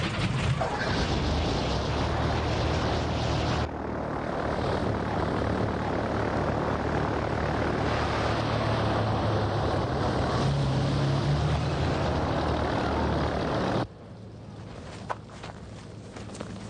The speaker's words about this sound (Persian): موتورا رو روشن کنید.